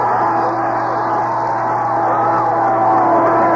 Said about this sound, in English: You can hear the crowd here at Chillicothe High School Stadium.